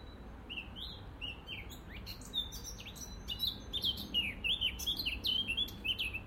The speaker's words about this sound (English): Isn't that beautiful? Isn't that absolutely beautiful? I don't even know which birds it are. It's not a wren, it's not a robin.